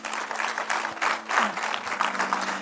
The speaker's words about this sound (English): So first of all, I do want to thank all of our visitors out. So can we give our visitors a round of applause?